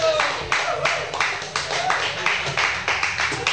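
A crowd applauds steadily, many hands clapping in a dense, fairly loud patter with bursts of sharper claps, sustained for a few seconds.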